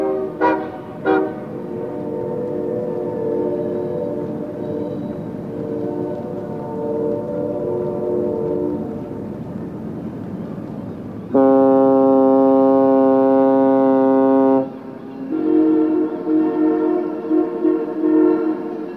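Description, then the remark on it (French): Several deep horns blare in sequence, a long harmonic train horn followed by a loud, steady ship horn and another overlapping blast, echoing across an open outdoor space with no talking, part of Raymond Murray Schaeffer's recomposed soundscape of Vancouver. “Raymond Murray Schaeffer recompose ainsi un paysage sonore de Vancouver, où la symphonie des sirènes se déroule comme une partition, entre train et bateau.”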